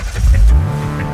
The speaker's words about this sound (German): Sie haben das aufgenommen, also das Anlassen des Porsche 911.